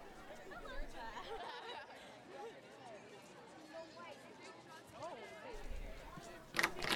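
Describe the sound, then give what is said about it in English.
A steady murmur of many voices fills a campus quad, an outdoor crowd chattering with no single speaker standing out, ending in a brief sharp clatter. “Forgot we're in the middle of the quad.”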